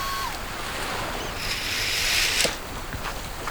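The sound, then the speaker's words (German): A hair dryer blows with a steady, airy whoosh that swells louder for a moment partway through, then settles back to a constant rush, as two women dressed as mermaids dry their hair in a large tent. No voices are heard. “In dem großen Zelt hatten sich gerade die beiden Meerjungfrauen umgezogen und föhnten ihre Haare trocken.”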